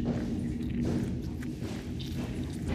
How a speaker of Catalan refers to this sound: Són unes passes fortes, sorolloses.